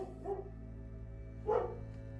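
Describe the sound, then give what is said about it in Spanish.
A dog, Guinefort, lets out two short barks about a second apart, the second one louder, over a steady low hum; no one speaks. “Olvidé decir algo. Guinefort era un perro.”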